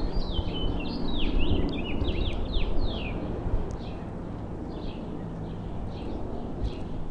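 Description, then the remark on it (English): Birds sing in a rapid series of descending chirps and whistles, busiest in the first few seconds, over a steady low outdoor rumble with no one speaking. “I don't know what those birds are. I don't know what type, but sure sounds nice.”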